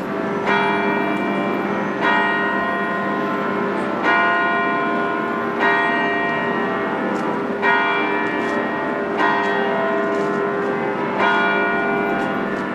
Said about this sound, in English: The church bells of New York on a windy morning, 1 year to the day after the attacks that felled the twin towers of the World Trade Center.